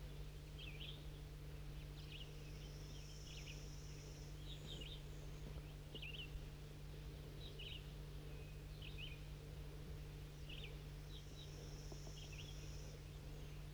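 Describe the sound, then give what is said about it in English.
Crossbills sitting at the top of an oak tree give short, sharp chip calls in loose clusters that repeat throughout, set over a steady low hum. Fainter, thin high notes drift in between. “There's some crossbills here.”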